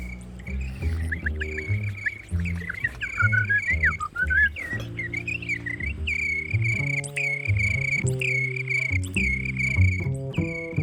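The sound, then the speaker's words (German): High, continuous chirping trills ring out steadily and fairly loudly over a layer of background music with low, sustained tones, with no talking throughout. “Das mit den Vögeln funktioniert immer.”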